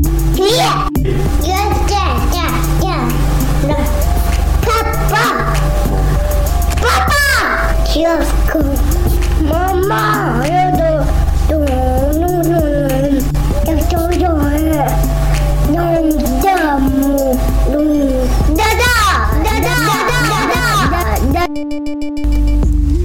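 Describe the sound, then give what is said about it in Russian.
A small boy, a nephew, yells and wails loudly and almost nonstop, the pitch rising and falling in drawn-out cries, layered over a steady, thumping low backing beat. “орёт, как всегда, хоть он и малыш, но это ерунда.”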